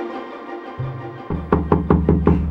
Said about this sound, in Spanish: ¿Quién toca mi puerta?